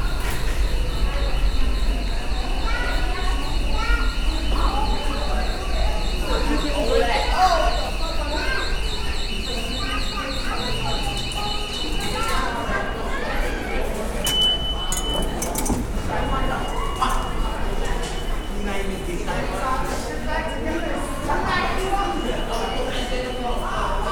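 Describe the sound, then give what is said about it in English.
Busy subway station ambience with a steady low rumble, a high metallic whine from a train, scattered clinks and clanks, and indistinct crowd chatter throughout. “beautiful sounds of the subway.”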